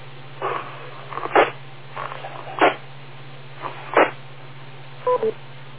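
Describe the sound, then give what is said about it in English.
A radio repeater beep on the TechNet radio net: two short, pitched tones sound near the end, after several bursts of static over a steady low hum on a band-limited radio channel. “Wait for the beep, and a little bit longer,”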